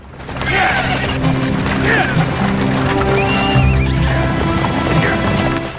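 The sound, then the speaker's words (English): A team of six horses pulling a stagecoach through a valley and around a corner, hooves clattering in a steady, loud, continuous rush while several whinnies ring out over the rumble, with no pauses. “The six-horse stagecoach rounds a corner.”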